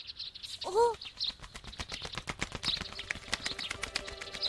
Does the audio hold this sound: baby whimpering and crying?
no